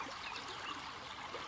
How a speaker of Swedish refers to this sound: Vattnet som porlar.